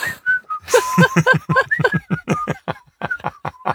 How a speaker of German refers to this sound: Wenn du pfeifst, kann ich mir nichts Neues überlegen.